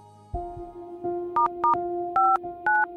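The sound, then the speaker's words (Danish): A steady telephone dial tone hums, then four quick two-note keypad beeps sound one after another as a number is dialed to call in to a telephone chat line, clear, with no voices. “Igen og igen ringer de op og kommer igennem til træfpunktet.”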